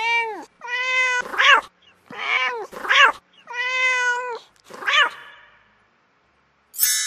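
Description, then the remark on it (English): A rapid series of about half a dozen loud cat meows from a video game with four cats on screen, some drawn-out and tonal, others short and strained, with brief pauses between them and no talking. “Cats on screen, 4. Choose.”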